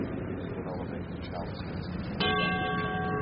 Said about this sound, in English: And once again the bell rings as the chalice is raised for the congregation to see and worship,